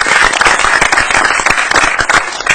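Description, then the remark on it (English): A crowd applauds steadily, dense overlapping claps forming a loud, continuous patter that holds at an even level throughout without any talking. “Speak now or forever hold your applause.”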